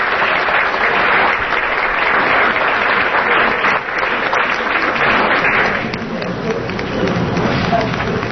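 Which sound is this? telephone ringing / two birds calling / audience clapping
audience clapping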